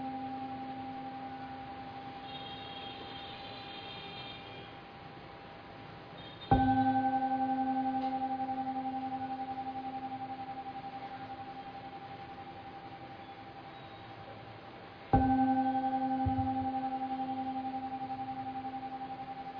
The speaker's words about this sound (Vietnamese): Bây giờ mời đại chúng nghe ba tiếng chuông để chúng ta kết thúc buổi pháp thoại ngày hôm nay.